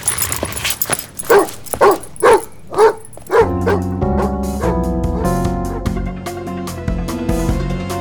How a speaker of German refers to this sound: Oh shit, was wird denn der Hund... Ah! Verdammt! Komm her! Los!